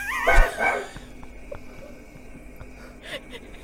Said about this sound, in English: The barking here is quite extraordinary, actually. That's whistling.